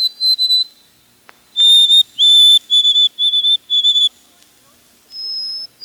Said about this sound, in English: Two whistled songs are often heard around here in summer. The white-throated sparrow's rhythm pattern seems to say, "Old Sam Peabody, Peabody, Peabody."